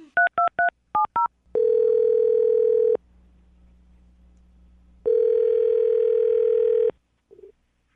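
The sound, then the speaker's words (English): A quick run of telephone keypad beeps as a host of the radio show Brooke and Jubal in the Morning dials a phone number, followed by two long steady ringing tones separated by a pause, clear with no talking. “I'm going to dial the phone number right now, see if we can get her on the phone and get your wallet back, okay?”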